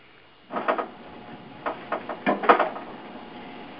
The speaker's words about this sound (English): Can you hold on a second? I got to shut the door because my dog is barking. Hold on.